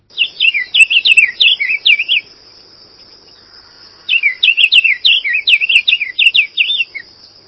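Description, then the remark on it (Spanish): A blue cardinal, a non-migratory songbird of Uruguay, sings two bright, rapid phrases of sweet whistled notes, separated by a short pause, clear over a faint steady insect hum in the background. “Bueno, este es el Cardenal Azul, que para mi gusto, por ejemplo, es de los pájaros que más lindo cantan en Uruguay, ¿no?”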